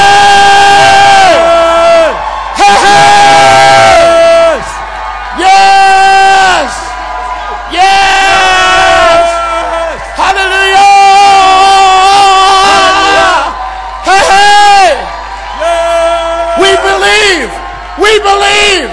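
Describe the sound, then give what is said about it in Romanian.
A church audience shouts and cheers in loud, sustained bursts, voices rising together in repeated waves of whooping and yelling with brief pauses between them. “Come on, let's shout.”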